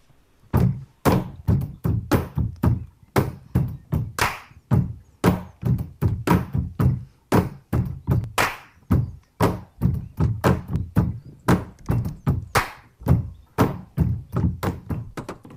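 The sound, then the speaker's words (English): Rhythmic drumming on tabletops by Stomp performers playing along with each other on their tables at home, shown in Zoom-style windows during the pandemic. Steady, dense thumps and sharp knocks interlock in a fast, driving groove from several players. Hollow low thuds mix with crisp taps, with no voices. “there's one post from during the pandemic that shows all the performers in Zoom style windows playing along with each other on their tables at home.”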